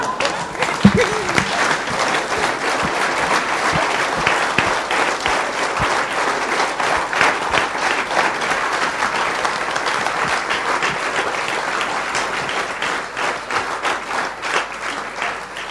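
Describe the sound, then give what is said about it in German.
Sustained audience applause after a lecture: a dense, steady wash of many hands clapping for about sixteen seconds at an even loudness, with no talking over it. “Ja, ich glaube, der Applaus hat schon alles gesagt.”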